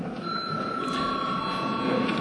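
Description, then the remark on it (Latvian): A session bell rings continuously for a couple of seconds to signal a break, a steady, bright metallic tone held without pause, with a faint murmur of the room underneath. “Lūdzu, zvana.”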